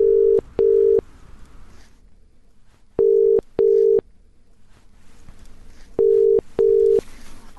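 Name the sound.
telephone dialing tone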